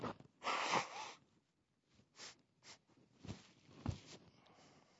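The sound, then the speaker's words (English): Someone blows their nose with one long, forceful, hissing blast, followed by several shorter snorting bursts and sniffs in an irregular rhythm, with no talking. “I'm going to blow my nose real quick.”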